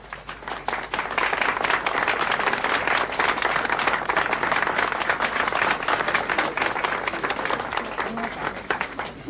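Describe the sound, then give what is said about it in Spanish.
A crowd breaks into sustained applause for Jesus Christ, dense overlapping claps swelling quickly and holding steady at a loud level for several seconds before easing slightly at the end. “Gracias por los aplausos, a pesar de que no son para mí.”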